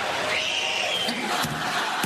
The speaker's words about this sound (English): DeMar DeRozan's 9-year-old daughter went viral due to her high-pitched screams to distract the Raptors attempting free throws. Here she is here. And here's the voice you're hearing when Raptors shoot. She's screaming.